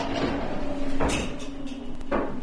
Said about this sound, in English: The door slides closed behind me as I'm walking into a gray cell that's 10 feet by 12 feet.